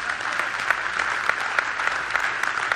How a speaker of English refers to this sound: You can clap. That's cool.